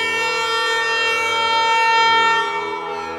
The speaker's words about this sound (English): I stand in my living room, hold the air horn over my head, and squeeze its trigger.